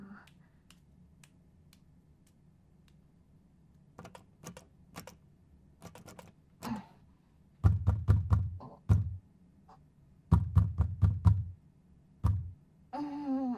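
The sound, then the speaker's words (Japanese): Scattered sharp clicks, then two loud bursts of rattling and thumping as someone jiggles the handle of a locked room door and tugs at it without it opening. “扉開かないかな。”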